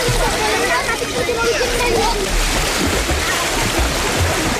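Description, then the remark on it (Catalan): Steady splashing and sloshing water at a crowded municipal swimming pool in Lleida on a hot day, people cooling off from the heat, with a dense murmur of many voices and shouts mixed in, continuous and fairly loud throughout. “Aquí les piscines municipals estaven avui plenes de gom a gom per mirar de combatre la calor.”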